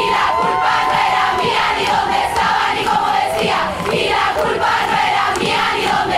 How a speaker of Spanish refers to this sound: Este audio que acabamos de escuchar corresponde a una manifestación de 2019 en Santiago de Chile. Al grito del violador eres tú, el colectivo Las Tesis consiguió hacer viral un mensaje que ya se venía propagando desde los espacios feministas.